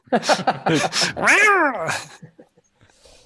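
A cat whose tail has been stepped on lets out a few sharp, loud screeches, then one long, rising-and-falling pained yowl, trailing off into quiet.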